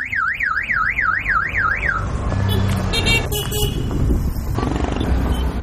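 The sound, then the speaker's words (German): Busy city traffic with several car horns honking in short bursts, following a warbling, alarm-like wail at the start, all over a steady rumble of engines and street noise. “Oft wird mehrmals in bestimmten Rhythmen gehupt, die dann vermitteln, ob es als Warnung, als Gruß oder gar als stupide Anmache gemeint ist.”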